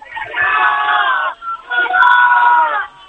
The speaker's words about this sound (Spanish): Bueno, la plaza de Ayuntamiento está llena. Un grito.